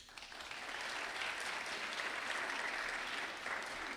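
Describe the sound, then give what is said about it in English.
Steady audience applause for the Targum Shlishi program director at a lecture event, a dense crackle of many hands clapping that swells in quickly and holds at a fairly even, moderate loudness throughout, with no one speaking over it. “If she was the one who pulled us off, and she deserves a special applause.”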